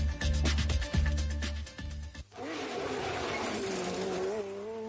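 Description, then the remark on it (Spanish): Rally car engines roar loudly at the 40th Rally Islas Canarias in Gran Canaria, revving in sharp bursts before a car surges past with a rising, sustained growl and hints of tire noise; no one speaks. “Ya rugen los motores en Gran Canaria.”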